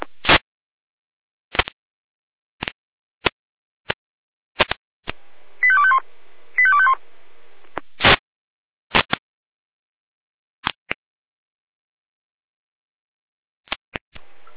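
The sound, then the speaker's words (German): Pager alert tones from the Jena dispatch center (Leitstelle Jena): two short bursts of stepped electronic tones in the middle, surrounded by a scattering of sharp, loud clicks over thin, band-limited radio-like sound. “Leitstelle Jena Alarmruf.”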